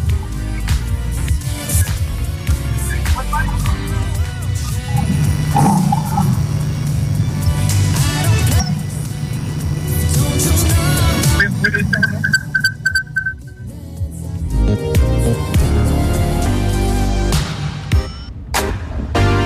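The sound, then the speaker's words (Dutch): Autocross race cars roar loudly and continuously at an autocross event on the first race weekend of the year, engines droning and revving with a dense, gritty rumble, while indistinct voices murmur beneath the din. “Nou ja, je luistert nog steeds naar het lijfverslag van af de Mapclub bij de Autocross hier.”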